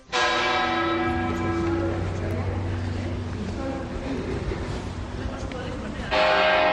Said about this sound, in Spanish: Escuchas el toque de difuntos de las campanas de la Catedral de Burgos este mediodía. A las 12 han sonado para homenajear al arzobispo emérito.